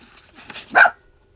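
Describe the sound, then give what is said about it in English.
A single sharp, loud bark from the speaker's pet dog, a female, preceded by a few softer, muffled stirrings, then silence. “My dog's about to bark.”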